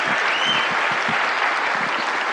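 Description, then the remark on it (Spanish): An audience at a convention bursts into sustained applause, a dense, steady wash of many hands clapping at once, loud and even throughout with no voices standing out. “Entonces dense un fuerte aplauso por estar en esta convención.”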